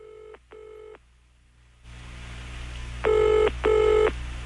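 A telephone rings in two double bursts, the first pair softer and thinner, then a fuller band-like wash comes in underneath as a rock song intro begins, before the second, louder pair of rings.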